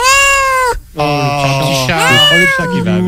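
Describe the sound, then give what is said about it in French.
A cat meows several times in quick succession, loud: one drawn-out meow, a short pause, then three more wavering, plaintive cries with no talking over them. “Le chat qui va avec.”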